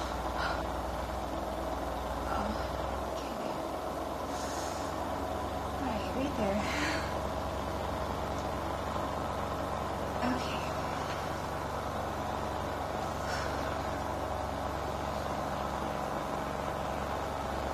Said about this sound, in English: I'm gonna switch the vibrator on now, and turn it up a little bit. Oh. Sounds like a tractor.